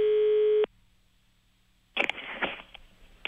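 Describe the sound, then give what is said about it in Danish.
A telephone ringing tone sounds once, a steady buzzy beep lasting just over half a second, followed by a quiet pause and then a burst of crackling, rustling line noise as if the call connects; a boy is phoning a painter for help with a small project. “Og her ringer han til en maler, fordi han skal have hjælp med et lille projekt.”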